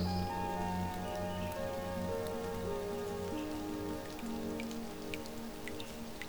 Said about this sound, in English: Do you hear that? The rain. It's started really coming down, hasn't it?